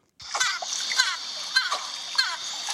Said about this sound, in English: That's just a little dolphin noise. You know, they're saying hello too.